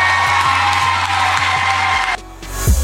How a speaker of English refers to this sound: Yeah, round of applause.